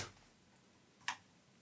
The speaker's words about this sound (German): Ihr hört nun meine mechanische Tastatur. Das ist okay, ich habe es ja angekündigt. Ah, das fühlt sich angenehm an.